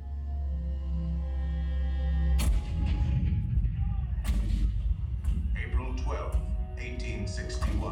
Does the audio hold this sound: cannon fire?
yes